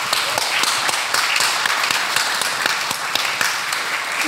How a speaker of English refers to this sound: I would like for you all to give Natalie a round of applause for being here.